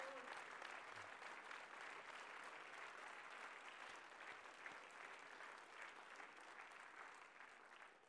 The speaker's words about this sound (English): Come on, get on your feet and give a clap offering of praise to the Lord God Almighty.